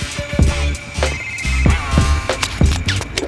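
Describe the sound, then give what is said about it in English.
A phone rings with a bouncy musical ringtone, a looping melody over a thumping bassline and sharp percussive hits, fairly loud with no voices. “phone?”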